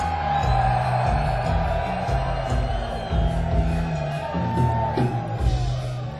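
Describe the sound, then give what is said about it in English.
A big concert crowd of fans who have been to more than 14 of the band's shows screams and cheers loudly for several seconds when asked to, a dense sustained roar with scattered whoops and yells rising out of it. “Now the next group I'm going to ask, you might have to scream a little louder because there's going to be fewer of you”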